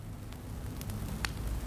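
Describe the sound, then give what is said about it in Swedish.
A muffled fire crackles beneath an old wooden floor, burning in the basement below, over a low, steady rumble, with a few sparse, sharp pops snapping out irregularly; no voices. “Då hörde jag ett knastrande ljud under mig.”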